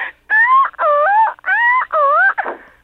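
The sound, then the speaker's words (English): A voice imitates the steering noise a Subaru Justy car makes while the wheel is turned going around a corner: four loud, high, wavering squeals in a steady rhythm, like a whimpering creature, ending in a short raspy crunch, with no talking. “I have a Subaru Justy, and every time I go around the corner, it sounds like there's a small animal being crushed.”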